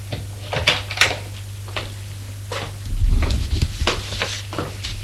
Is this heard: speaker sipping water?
no